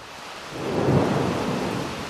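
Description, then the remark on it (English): Heavy rain pours down in a steady, hissing wash in front of an old tobacco warehouse, now an antique mall, in Mullins, South Carolina, while a low roll of thunder swells up and rumbles through the middle before easing back under the downpour. “In front of one of Mullins' last two remaining tobacco warehouses, a downpour has started.”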